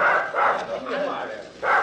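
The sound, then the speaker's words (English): Several dogs on a scent trail bark and bay in quick, overlapping bursts, a loud pack calling in an irregular rhythm with barely a pause between the barks. “This fool will throw the dogs off the scent.”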